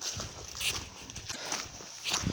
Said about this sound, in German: So, ich laufe jetzt hier endlos durch den Wald, ganz alleine. Nur das Laub rascheln ist zu hören.